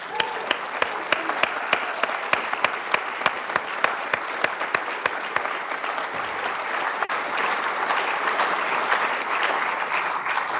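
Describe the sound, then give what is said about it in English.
A crowd applauds steadily for about ten seconds, a dense wash of many hands clapping with sharp individual claps punctuating it early on, holding loud and full throughout, applauding a spacecraft image of a planet received that morning via NASA's Deep Space Network. “And how about a round of applause for that beautiful planet?”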